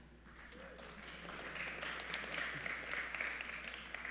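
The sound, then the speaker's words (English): A light smattering of applause at a church service at Normal Heights Church, a fairly quiet patter of scattered claps that builds slightly and holds steady for a few seconds, with no voices over it. “We call that a smattering of applause.”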